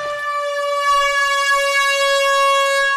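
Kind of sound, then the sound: signal or alarm, air horn blast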